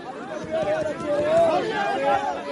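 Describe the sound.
A dense crowd of hundreds of migrants clamoring outdoors around a truck distributing food on the border, mostly men pushing to the front and catching rations thrown into the air; many overlapping voices shouting and calling at once in a loud, continuous babble, with occasional raised cries rising above the noise.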